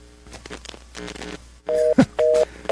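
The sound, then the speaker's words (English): Three short, loud telephone touch-tone keypad beeps in quick succession, each a steady two-note electronic tone, following a stretch of quiet muffled background noise, with a brief thump between the first two beeps. “Just hit a button.”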